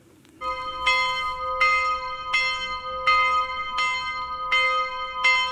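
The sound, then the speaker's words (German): A large cast school bell in front of the Gutenberg-Gymnasium in Erfurt, Germany, rung by a student at a memorial for the 16 victims of a school shooting, rings steadily, struck about seven times at an even pace, each stroke blending into a sustained, resonant hum between hits. Clear, with no talking. “Es ist nicht irgendeine Glocke, die das Gedenken am Erfurter Gutenberg-Gymnasium einläutet.”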